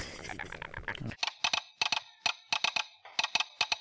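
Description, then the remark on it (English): Sharp telegraph clicks tap out Morse code in quick, uneven clusters of two to four, separated by short pauses, following a brief stretch of muddier background sound at the start, at the telegram office in New Orleans Square, heard while waiting for the train. “Also another noise, the telegram office in New Orleans Square, when you're waiting for the train in New Orleans, it's the Morse code that...”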